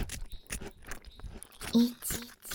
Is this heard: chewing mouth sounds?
yes